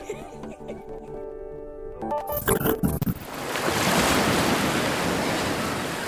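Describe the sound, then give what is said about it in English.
Harmonic tones and clattering sounds give way to a broad, steady wash of ocean surf, with a faint busy ambience suggesting a crowded seaside boardwalk; no clear speech. “Follow the water, folks. Ice cold water for now. Let's be on the boardwalk.”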